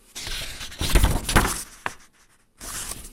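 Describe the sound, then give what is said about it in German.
Pages of a booklet are leafed through during an interview, producing a few bursts of crisp paper rustling and flapping, with a brief pause before a final page turn. The booklet holds the results of five years of research on Fridays for Future and the climate justice movement. No one speaks. “Während unseres Interviews blättert Antje Daniel immer wieder in einem Heft.”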